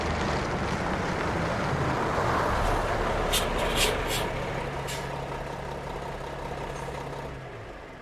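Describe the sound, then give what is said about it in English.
A vehicle pulling into a gas station area rumbles and slows to a stop under steady wind-like road noise, a few short hissing bursts cutting in, then its engine settles into a low, even idle before fading. “Let me just pull over here.”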